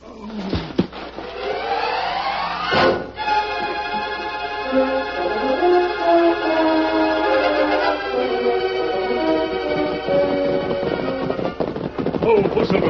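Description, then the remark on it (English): A sharp gunshot cracks out near the start, surrounded by loud, sustained dramatic music that swells and carries on after the shot. “That was a gunshot, Tonto.”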